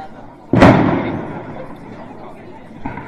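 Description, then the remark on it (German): A single loud firework boom bursts out suddenly and rolls into a long, fading rumble, with a fainter pop near the end. “Da ist auch Feuerwerk in Halle.”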